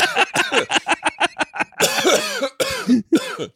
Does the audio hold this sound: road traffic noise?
no